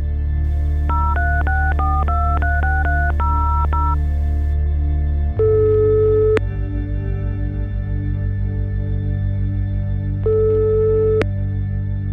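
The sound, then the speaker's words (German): A quick run of about ten clear telephone keypad beeps, followed by two long ringing tones spaced several seconds apart over a low steady hum; no one speaks. “Solange wir auf Antworten aus Mosambik warten, telefoniere ich”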